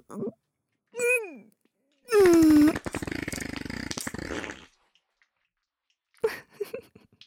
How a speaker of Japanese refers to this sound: 汚い音、音だけで臭いとわかる強烈なヘでしたね。臭いですね、シスター様のおなら臭すぎ。